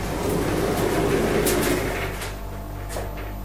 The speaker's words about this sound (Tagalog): At laking gulat ko nang biglang nagbukas ang pinto ng elevator.